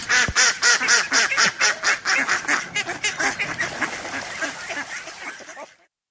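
Ducks quack over and over in a rapid, overlapping chorus at Saint-Avertin, loud at first, then thinning out slightly before stopping abruptly near the end.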